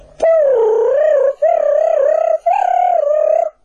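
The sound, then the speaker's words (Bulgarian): A little owl's answering call: three loud, drawn-out tonal hoots in quick succession, each slightly wavering in pitch, with no other sounds around them. “и това са същите онези кукумявки, които едно време отишли на сватба, за да учат песни.”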